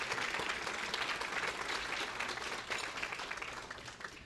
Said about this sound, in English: Also, yes, there were another round of applause for Anna here. It was very nice.